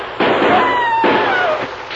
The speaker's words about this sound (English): Only one man fired,